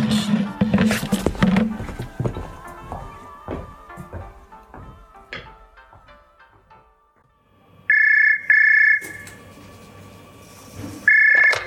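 A telephone rings loud in short electronic bursts, two back-to-back and another starting at the end, following a stretch of clattering and knocking sounds.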